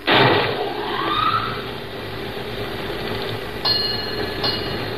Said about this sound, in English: Fog's coming in. The mate says to start the bell.